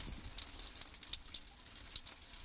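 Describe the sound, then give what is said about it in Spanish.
A steady jet of water from a centuries-old fountain spring pours and splashes continuously, with bright droplet patters scattered through it, fairly quiet, with no one speaking. Heard on San Isidro day. “Vamos a escuchar cómo suena el agua.”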